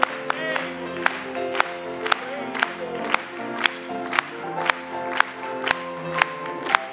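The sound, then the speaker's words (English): A church audience claps in unison for Jesus, sharp steady claps landing on every beat, about two per second, over singing of a song about the Lord coming back to earth and instrumental music that carries on underneath. “Let's clap it to him.”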